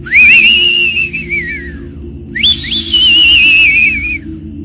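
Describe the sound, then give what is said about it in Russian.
Two long, wavering whistles carried by the wind, each sliding up and then gently down in pitch, separated by a brief pause, sounding over a steady low wind rumble. “Вдруг ветер доносит свист.”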